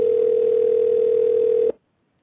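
A telephone call rings unanswered: the line tone drones steadily at a low, even pitch for almost two seconds, then cuts off abruptly. It is loud and continuous, with no voices.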